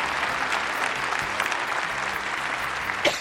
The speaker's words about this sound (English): Oh, God! And the applause gets louder. What's going on? It's like a mad stand-up, this, isn't it? Listen to the applause.